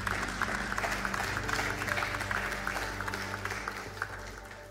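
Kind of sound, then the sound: crowd, audience applause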